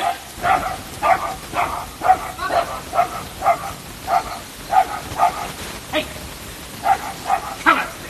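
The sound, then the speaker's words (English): A dog barks over and over in a steady, fairly quick rhythm, the yappy barks moderately loud above a constant hissy, lo-fi background, from a covert cassette recording. “Don't Be a Bad Dog. Don't be a bad dog.”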